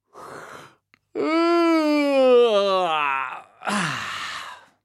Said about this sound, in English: Have a big yawn and a stretch. This will help you breathe in lots of air, ready to sing. So, big yawn.